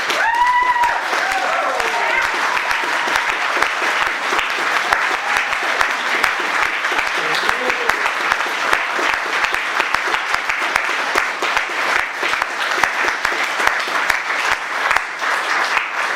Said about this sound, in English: Let us show our appreciation with a rousing round of applause.